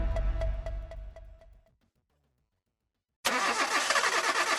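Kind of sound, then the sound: vehicle, car engine starting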